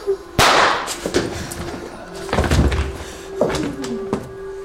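Gunshots fired through a blanket: a loud, sharp crack followed by several more scattered bangs over a few seconds, with a steady low hum running underneath and no one talking.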